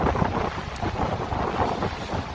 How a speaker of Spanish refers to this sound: Bueno, esto, como decimos, en Suances, en Cantabria, en San Sebastián, en el País Vasco, la alerta naranja por fuerte oleaje se ha activado desde las 2. Dentro de poco podremos seguramente volver a escuchar esto.